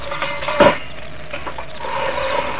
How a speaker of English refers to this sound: As you see, it opens a wide door. Wide enough for the Juggernaut to get through.